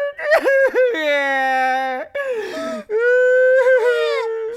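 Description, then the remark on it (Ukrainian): A single voice wails and cries in long, drawn-out, quavering howls with sliding pitch, broken by short gasping breaths between loud sobbing bursts, sustained throughout. “Ти насправді плачеш, а? Плачу.”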